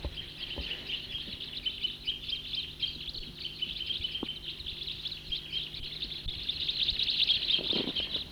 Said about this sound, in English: Stopped. There it goes again. Crossbill song. Stop. About 10 birds. Stop.